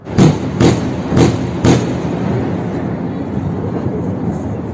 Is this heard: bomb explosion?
yes